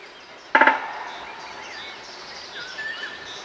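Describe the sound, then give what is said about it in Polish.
A woodpecker hammers out a short, rapid burst of drumming on a lamp post, the strikes leaving a brief metallic ring, followed by soft bird calls over a low outdoor hum. “Bębnienie dzięcioła w latarnię, ale też i oczywiście gdzieś tam wysoko w konary drzew.”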